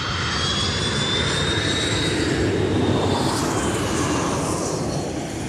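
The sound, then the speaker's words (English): A loud, steady roar of an airplane engine fills the whole stretch, with a high whining tone that slowly shifts pitch as the aircraft passes by; no voices. “Antalya is just an hour by plane from Istanbul and also has an international airport.”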